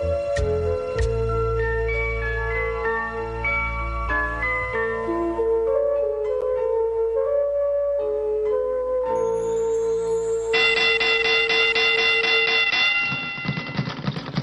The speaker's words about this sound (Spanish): Señores, vieron la campana, boxeo, y hubo boxeo este fin de semana, tanto internacional como local.